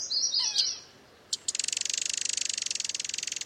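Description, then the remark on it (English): A short, high common yellowthroat song phrase rings out first, then a fast, steady pulsing trill takes over and continues evenly to the end, clear. “Yellowthroats spend most of their time among low-growing plants and shrub branches.”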